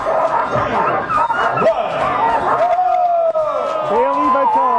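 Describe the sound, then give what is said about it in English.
A loud, dense chorus of sled dogs barking, yipping and whining all at once at the ceremonial start of the Iditarod sled dog race, continuous and overlapping throughout, with some howl-like drawn-out cries rising toward the end. “Sound for the ceremonial start this week, sled dog expert”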